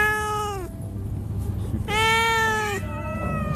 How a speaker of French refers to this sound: Les miaulements nuancés des chats recueillis par Jérémy Bazar.